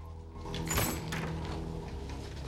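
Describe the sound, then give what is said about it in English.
An apartment door swings shut as a man heads into his apartment, a single muffled thud and faint rattle near the start, followed by a steady low hum of room tone. No one speaks. “Rigg heads into his apartment, closing the door behind him.”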